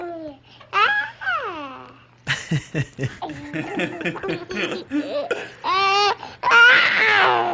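A newborn baby's high, wavering cries and fussy squeals come in several uneven bursts, fairly loud, with short choppy sobs in between and no adult talk.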